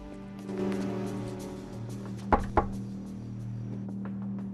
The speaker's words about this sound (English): He looks around cautiously as he walks unhurriedly towards a row of what appear to be motel room doors. Approaching one of these, he knocks.